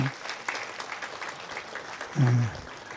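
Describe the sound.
An audience in a church claps steadily, a dense crackle of applause that holds throughout, with a brief low voice rising near the end over the clapping.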